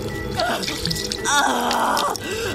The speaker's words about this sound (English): She pressed it to her face so that the water covered her nose and splashed down her neck.